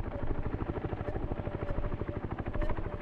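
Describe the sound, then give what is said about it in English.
A firefighting helicopter's rotors thump in a fast, steady chop, loud, with the deep engine roar filling the whole stretch and no voices; the helicopter is filling up with water while working a fire. “And again, looking into the air, I'm counting 1, 2, 3, 4, 5, and a sixth helicopter behind me, filling up water at this moment”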